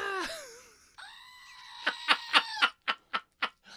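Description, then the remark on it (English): A goat screams, letting out a long, strained, nasal cry that breaks into a quick run of about seven sharp, pulsing bleats, with no one talking. “And then the goat screams.”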